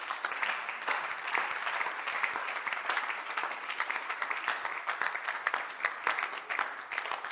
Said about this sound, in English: Oh, clap your hands for Jesus.